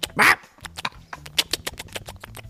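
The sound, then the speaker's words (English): A person imitates a parrot: one loud, harsh squawk, then a quick run of nasal, chattering squawks in an uneven rhythm. “That sort of thing is what a parrot does.”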